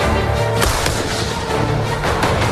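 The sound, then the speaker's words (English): Repeated cannon fire from Washington's army on March 2nd, 1776, not the heavy cannons retrieved from Fort Ticonderoga, booms over a continuous loud, low rumble, several heavy blasts landing irregularly like a bombardment, with no voices. “Washington's army begins firing cannons.”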